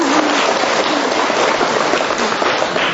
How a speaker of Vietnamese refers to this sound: Nhìn rồi chúng ta cho một tràng pháo tay nữa, thật là đẹp.